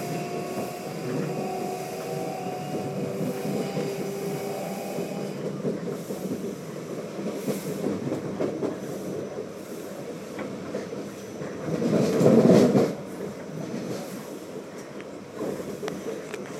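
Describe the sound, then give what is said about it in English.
A passenger train bound for Edinburgh Waverley rolls steadily along the rails as it approaches Coatbridge Sunnyside station. Its low rumble is constant, with a faint electric whine early on and a brief louder surge of wheel noise near the end. “Please mind the gap when alighting from this train.”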